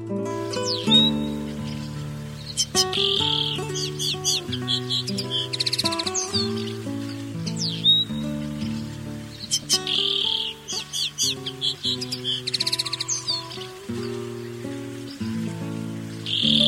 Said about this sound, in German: Das war der Bluthänfling.